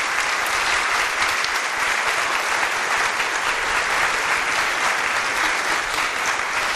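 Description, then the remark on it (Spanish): A crowd at an afternoon Mass applauds steadily in honor of the late Father José, a dense wash of many hands clapping at an even, fairly loud level throughout, with no voices standing out. “Un aplauso al Padre José, un aplauso, aplauso, aplauso.”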